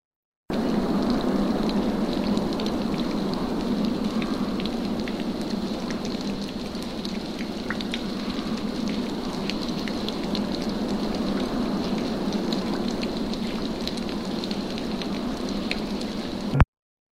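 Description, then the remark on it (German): Steady rain falls throughout, a dense, even hiss with scattered sharper drops pattering on a surface. No voices, just continuous rainfall from start to finish. “Im Regen, in die Ferne spähend, ob der Karren ihm entgegenkommt, gelangt Petka zum Lager”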